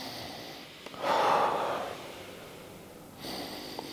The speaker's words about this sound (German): Wir machen mal einen kleinen praktischen Test. Das heißt, atmen Sie mal tief ein und aus.